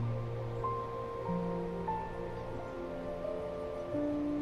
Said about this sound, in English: It is a tall waterfall that cascades into a pool at the bottom.